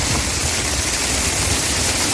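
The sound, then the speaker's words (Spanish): Heavy rain pours down in Almería, Spain, in a dense, steady hiss that fills the whole clip, loud and unbroken, with a low rumbling undertone and no voices. “Fíjate, escucha cómo caía la lluvia en Almería.”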